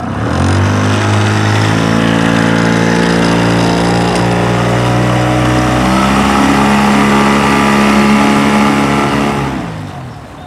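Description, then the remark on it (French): A fishermen's boat engine on the Loire river, France, that keeps breaking down catches and runs with a loud, steady droning hum, its pitch shifting as it revs midway, before dying away near the end. “C'est un moteur contrariant.”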